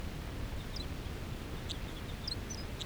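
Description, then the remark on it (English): A wild male bird sings a song phrase: a few thin, high chirping notes scattered across a few seconds, fairly faint over a steady low rumble of background noise, with no talking. “Song by the male. A lot of the other wild birds are calling.”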